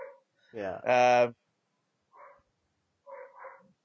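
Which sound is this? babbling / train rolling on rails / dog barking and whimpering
dog barking and whimpering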